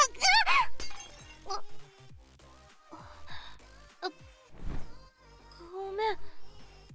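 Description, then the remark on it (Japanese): Glasses clink together in a toast, a bright ringing chime at the start, followed by more scattered clinks and tabletop clatter, with a few soft vocal sounds in between. “では乾杯。”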